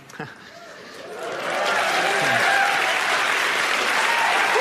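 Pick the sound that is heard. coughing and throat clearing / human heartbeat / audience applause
audience applause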